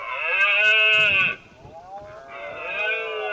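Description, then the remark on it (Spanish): Red deer stags, animals of about 150 kilos, bellowing during the rut (la berrea), their mating season in September and October, in the mountains: a long, loud, harmonic roar, a pause, then a second drawn-out bellow that continues to the end, with no voices. “Son los sonidos que emiten los ciervos en la época en la que se aparean en la berrea.”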